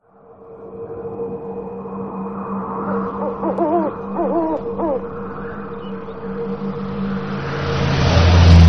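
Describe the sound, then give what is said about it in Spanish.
A red car with somewhat battered doors drives south along a tree-lined highway with a steady engine drone and road rumble that swells louder near the end, with a few brief warbling tones in the middle. “Los árboles al lado y lado de la autopista ancestral en dirección sur. Un carro rojo con las puertas un poco destrozadas y la parte de atrás como contando las historias desgraciadas de accidentes que le han tocado.”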